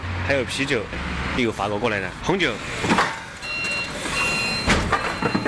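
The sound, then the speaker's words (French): A person speaks over outdoor machinery noise, then a high, steady reversing alarm beeps from bulldozers levelling the last fields near a freight rail station to make way for a logistics park, clearly audible under the rumble. “À quelques encablures de la gare de fret, des bulldozers terrassent les derniers champs pour faire place à un énième parc logistique.”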